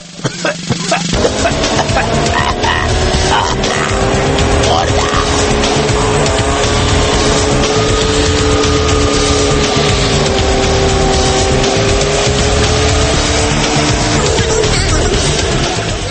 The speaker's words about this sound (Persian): الان یه ماشینی که از فرط داغونی به جای دود گاز خردل تولید میکرد از اینجا رد شد.